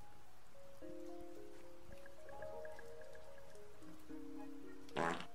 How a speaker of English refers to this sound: Thanks for the fart.